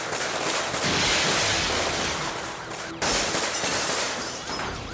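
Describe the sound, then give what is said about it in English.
A loud, dense barrage of rapid gunfire as deputies and a suspect exchange fire, with shots overlapping into a continuous crackling roar and a brief break partway through before it resumes. Nobody speaks. “The gunfire stops.”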